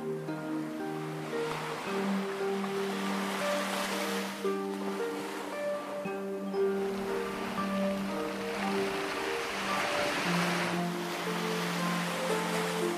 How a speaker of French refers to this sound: Ce soir, tu imagines le son de l'océan. Tu entends les vagues.